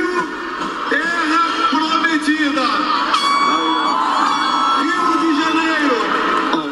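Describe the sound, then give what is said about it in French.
A large outdoor crowd of Bolsonaro supporters rallying around their president on Copacabana beach roars continuously, with overlapping shouts, whoops and chanting voices, plus a brief horn-like blast around the middle, all sustained at a steady loud level. “Dans le camp adverse, sur la célèbre plage de Copacabana, les soutiens de Bolsonaro sont venus faire une démonstration de force autour de leur président.”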